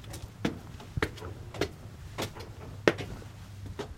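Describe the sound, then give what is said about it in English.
A side door of the building that will become the new Northwest Arkansas Free Health Center is opened with a series of sharp clicks and knocks from the latch and handle, spaced irregularly over a low steady hum. No one speaks. “opened a side door to enter what will soon be the new Northwest Arkansas Free Health Center.”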